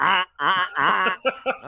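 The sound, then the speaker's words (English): Loud, nasal duck call quacks from hunters calling ducks: three drawn-out honking quacks followed by a quick run of short, choppy ones, clear with no talking. “They were calling ducks.”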